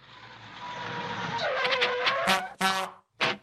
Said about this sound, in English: That honking noise new, Julesy? Yep, it's been new for 6 weeks, mate,